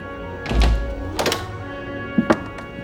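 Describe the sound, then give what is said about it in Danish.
A ship's captain opens the door into the Danish trading station, a long wooden house by the quay in eastern Iceland: a heavy wooden thunk, a rattling clatter, then two sharp latch-like clicks near the end, with no voices. “Kaptajnen åbner døren ind til handelsstationen.”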